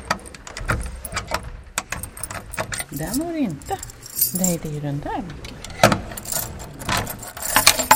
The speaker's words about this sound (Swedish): I och med att klockan har stannat så behöver jag låsa upp fodralet. Och då har jag ju väldigt många nycklar här på min nyckelknippa för nu måste jag komma underfund med vilken som hör just till den här klockan.